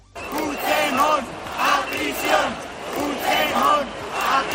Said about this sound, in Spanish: Han sido, de nuevo, cientos de miles de personas, hasta 1 millón, según la organización, que han vuelto a las calles para protestar contra la amnistía y las cesiones de Sánchez a los partidos separatistas.